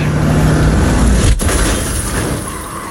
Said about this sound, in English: It's not slowing down. Why isn't it? Ace, get out of the goddamn car!